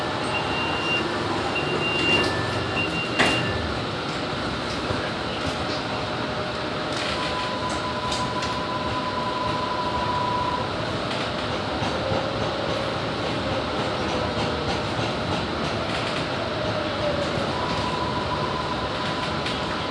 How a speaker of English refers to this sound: The destination of this train is North Station.